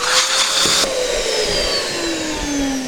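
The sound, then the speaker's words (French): An electric pump inflating balloons in assembly-line fashion hums steadily with a whirring motor tone that slowly drops in pitch, over a constant rush of air. The sound is fairly loud and continuous, with no voices. “T'as vu dîner le travail à la chaîne au niveau des ballons.”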